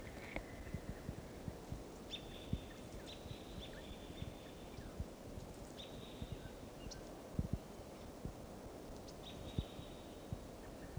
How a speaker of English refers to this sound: Wild birds flying. Reach another tree here in the park. Stop. Here's that wild bird.